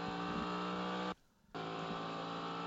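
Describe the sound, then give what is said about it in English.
Race car engines roar in a loud, steady, high-pitched drone at Sebring International Raceway in the gathering darkness, broken by a brief near-silent gap in the middle before the engine noise resumes at full volume. “Great to hear the sound of race engines in the gathering darkness at Sebring International Raceway.”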